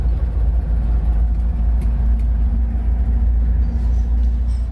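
An old Volkswagen Beetle's 25 kW, 34-horsepower engine runs with a steady, deep, throbbing rumble that stays even and fairly loud throughout, with no voices over it, as the car is driven on a chilly, sunny October autumn day.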